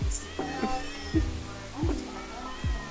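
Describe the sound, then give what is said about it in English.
A cat meows repeatedly, about five short cries in quick succession, each sliding downward in pitch, with soft background noise between them. “How are we ever gonna leave without any cats at all? They're just so darn cute.”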